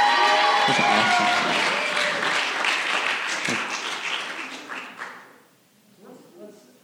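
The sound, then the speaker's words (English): A crowd applauds loudly with dense, rapid clapping and a few cheers, holding steady for about five seconds before fading out, followed by a brief murmur of voices. “Give them a round of applause one more time.”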